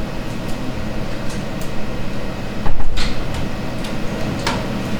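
A door opens and closes with soft clicks and a brief muffled thump midway, set against a steady low background hum with no one talking.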